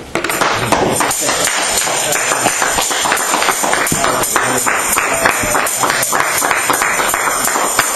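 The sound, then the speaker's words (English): Loud, dense hand clapping from a large audience clapping to the Lord to usher a visiting evangelist to the front, a steady rapid patter of many overlapping claps sustained throughout, with faint voices mixed underneath. “The clap is not strong enough.”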